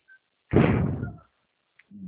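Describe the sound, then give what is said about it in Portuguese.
A knock on a door: one fairly loud, dull burst of thuds lasting under a second, then quiet, with a few faint soft sounds near the end and no talking. “Tem gente na porta, gente?”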